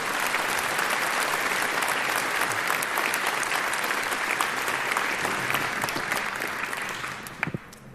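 Steady, dense applause from a large audience, a continuous wash of clapping at even loudness that tapers off near the end with a few last scattered claps.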